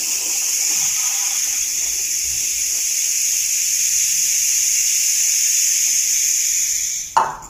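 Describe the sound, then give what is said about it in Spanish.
A homemade, painted rain stick with small sticks set inside and filled with rice pours out a steady, bright rushing patter for about seven seconds, like falling rain, then stops with a short clatter as the grains settle. No talking. “Y así es como queda nuestro palo de agua. Mira cómo canta el río.”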